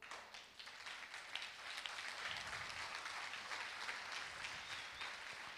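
An audience claps their hands together as an act of worship in a dense, continuous burst of applause that fills the room steadily for several seconds, with no one speaking over it.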